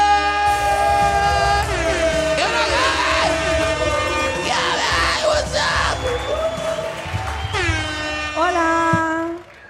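A loud crowd cheers and claps, with yelling, whooping and long blaring horn-like tones rising and falling over the clapping, sustained for about nine seconds before cutting off sharply.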